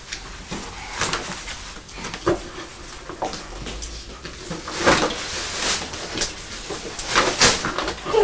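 A chair is dragged and scraped across the floor as it is pulled up to a table, in several short, uneven bursts with a few knocks, moderately loud, and no one speaking.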